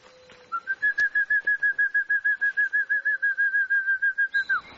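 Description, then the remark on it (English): Weaver bird calls: a fast, steady run of about twenty clear whistled notes at an even pitch and rhythm, fairly loud, with no one talking. “Nichols has studied the birds' habits and calls tirelessly.”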